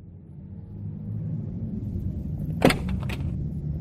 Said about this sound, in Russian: Я забрался на переднее сиденье машины и вставил ключ в зажигание.